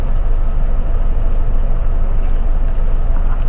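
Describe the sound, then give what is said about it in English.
A city bus engine rumbles steadily from inside the vehicle at Plaza Catalonia as passengers prepare to get off. A loud, constant low drone with road noise and faint rattles throughout, and no voices. “We are getting off the bus here.”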